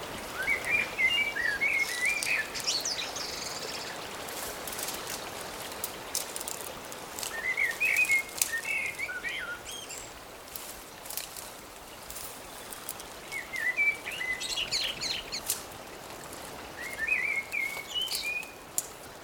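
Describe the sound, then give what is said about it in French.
Birds sing in short, bright bursts of chirping phrases every few seconds, over a steady background wash like running water or light rain, with no one talking. “L'écume des vagues, le chant des oiseaux.”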